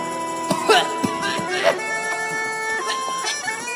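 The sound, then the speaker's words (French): Several sharp, squawking seagull cries burst out in quick succession, fairly loud, over a steady tonal hum that runs throughout. “Ça fait des mouettes. Oh là non, ça devient n'importe quoi là.”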